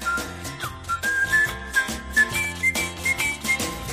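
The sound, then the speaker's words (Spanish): A person whistles a clear, lilting melody, steady and prominent over a full instrumental backing with bass and rhythmic accompaniment; no one speaks. “Con frutos secos Reyes, mucho más que pipas, hoy nuestra mochila viaja silbando.”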